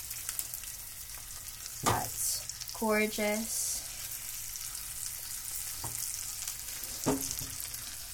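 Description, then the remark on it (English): Chicken sizzles steadily in a frying pan, a constant crackling hiss broken by a few sharp clinks and thumps of the meat being turned. A voice briefly speaks partway through. “You kind of just want to do a very gradual cook to it, and once you start to see the edges browning, then you can take your chicken and you can flip it.”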